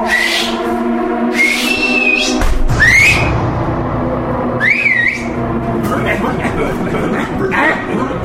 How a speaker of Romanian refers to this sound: Mereu trebuie să le amintesc fluierând că au treabă de făcut,